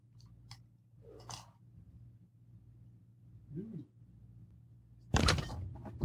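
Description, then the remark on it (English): A refrigerator, recorded with a microphone inside it, hums steadily under scattered clicks and soft knocks, then the door opens with a loud, rattling clatter as glass beer bottles, including large stout bomber bottles, are shifted and clink against each other. “Hey, guys, I'm fridge miking. Hear that?”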